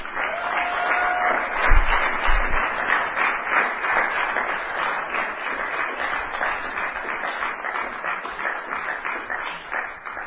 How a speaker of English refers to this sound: I hope that you clapped your hand for me, but I would like you now to clap hand for Jesus Christ.